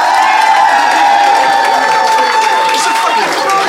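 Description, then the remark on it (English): A live audience in Phoenix applauds and cheers loudly and steadily to vote for which side won, a dense wash of clapping with whoops and shouts rising over it, sustained throughout without pause. “So if you think Marcel and Ben, and therefore Mark, won the day, applaud now.”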